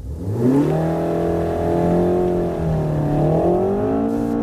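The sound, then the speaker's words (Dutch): A Renault Megane RS Trophy R engine revs loudly and steadily, its throaty tone climbing in pitch, easing briefly, then rising again. No one speaks. “Maar de Renault Megane RS Trophy R, gewoon leuk.”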